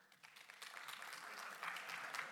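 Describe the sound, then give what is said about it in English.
An audience at a morning gathering breaks into applause, a dense crackle of many hands clapping that swells slightly and holds steady for a couple of seconds, with no talking. “And I just wonder, by a show of applause this morning, how many of you are with me?”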